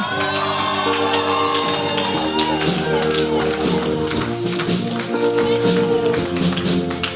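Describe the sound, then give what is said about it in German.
An audience applauds with steady, dense clapping and some cheering, loud and continuous throughout, while sustained musical tones hum underneath, welcoming a former youth pastor who will preach that evening. “Und das war schon mal so ein Applaus zum Warmwerden.”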